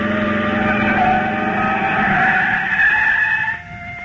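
Loud tire screech as a car being chased skids hard near a dock for several seconds, the squeal holding steady before cutting off abruptly as the vehicle comes to a halt.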